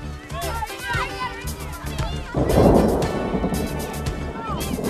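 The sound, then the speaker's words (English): Children's voices chatter and call as kids practice on a school field, a deep rumble of thunder rolls in midway, followed by a steady, soft hiss of rain beginning to fall. “Hey, it's starting to rain.”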